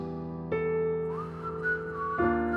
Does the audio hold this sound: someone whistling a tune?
yes